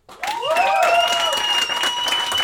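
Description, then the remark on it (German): An audience breaks into loud, steady applause to vote for a question, holding for a couple of seconds, with a few shrill whistles and cheers rising over the dense clapping. “Okay, also euer Applaus für die Frage, wo ist Vincent?”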